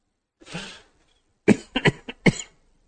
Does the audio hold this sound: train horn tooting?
no